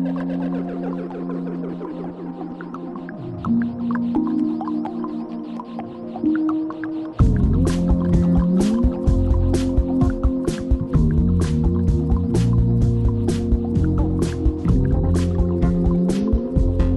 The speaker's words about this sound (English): I dig it, man. What if water was part of the band?